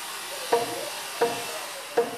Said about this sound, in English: We're at a location much less romantic. It's a construction site for a rebuild.